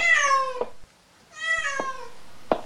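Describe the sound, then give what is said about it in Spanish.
A black cat meows twice, two drawn-out, falling cries separated by a short pause, fairly loud with no talking, followed by a brief soft tap. “Iba caminando y entonces ¿qué vi? Un gato negro mirándome a mí.”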